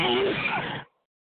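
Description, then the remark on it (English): A single sneeze, a sudden breathy vocal burst lasting under a second that cuts off abruptly into silence. “Bless you”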